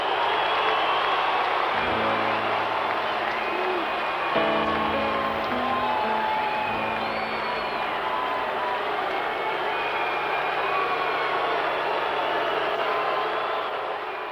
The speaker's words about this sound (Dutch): Je hoort alleen maar één ja. grote massale boe. Dat nou, is... je hoort ook geklap. Ja, dat is waar. Het is dat eigenlijk een heel gek geluid ja. van boe en gejuich door elkaar en het houdt niet op.